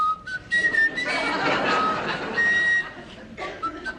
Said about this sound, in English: starts whistling.